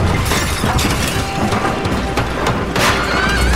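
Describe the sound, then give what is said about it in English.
A tree breaking through a window: a loud, sustained crash of breaking glass and splintering wood, with dense cracking and shattering that stays intense throughout, plus a deep rumbling thud underneath. “A tree breaks through the window, knocking Paul over.”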